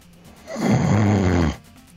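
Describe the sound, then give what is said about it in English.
A single loud, drawn-out snore, rough and rattling for about a second, close to the mic; it sounds like a person playfully imitating snoring rather than actually sleeping. “You should have snored in a French way, you know?”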